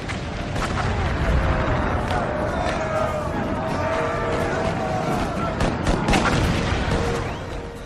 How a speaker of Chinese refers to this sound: 我们在刚刚的建国史话之中讲到，1863年7月3日下午，美国历史上著名的葛底斯堡战役打响了，南方邦联的130多门火炮集中火力，对北军中段防线狂轰滥炸，北军瞬间伤亡数百。